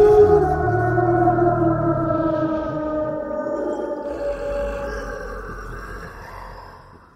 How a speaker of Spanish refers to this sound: La criatura desapareció entre las tinieblas, emitiendo un rugido aterrador que se escuchó a kilómetros de distancia.